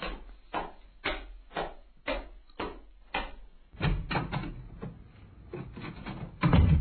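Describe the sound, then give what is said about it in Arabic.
The wooden door of a friend's house rattles and creaks open, preceded by a quick run of sharp, evenly spaced wooden knocks, with louder scraping and bumping toward the end. “افتح الباب يا نوفل، افتح، أنا ماجد. حاضر حاضر، أنا قادم.”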